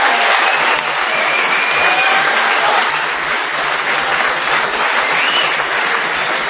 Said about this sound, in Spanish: Sí, señores. Estamos aquí el lunes. Sí, pueden aplaudir. Estamos en Tandil.